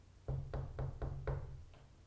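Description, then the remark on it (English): Five firm knocks on a wooden door in a steady, even rhythm, followed by a fainter sixth tap, with no one speaking. “But instead, I knocked.”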